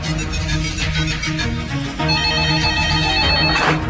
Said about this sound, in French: Le téléphone sonne.